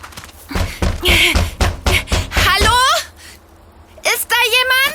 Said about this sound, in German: lass uns ganz laut dagegen klopfen und rufen. Okay.